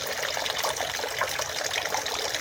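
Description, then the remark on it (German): Water runs and trickles steadily into a small shrine purification basin, where people wash their hands and mouth, a continuous splashing flow with no one talking. “die kleinen Wasserbassins, wo man sich sogar die Hände waschen soll”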